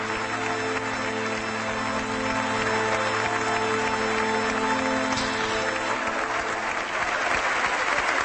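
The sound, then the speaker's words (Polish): A crowd gathered to receive the Pope applauds steadily for several seconds after one of the youngest altar servers hands over a letter, a dense, continuous wash of clapping hands at a consistent loud level, with some faint voices and a low hum underneath. “Jeden z najmłodszych tutaj posługujących poczet Ojca Świętego z listem, który przekazał, i to znów wywołało również wiele aplauzu, oklasków wśród zebranych.”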